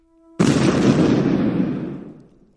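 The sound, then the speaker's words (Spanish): A sudden loud explosion bursts in after a brief low hum, its broad roaring blast slowly rumbling and fading away over a couple of seconds, with no voices. “Sí, que explota. Y tras esa explosión de pasión”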